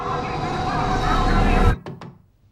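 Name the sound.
knock on a door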